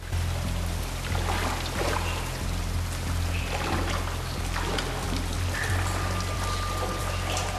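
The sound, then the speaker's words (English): Continuous heavy sloshing and splashing as people wade through thigh-deep water in a tunnel, with a steady low rumble underneath and no talking. “The water is now up to their thighs.”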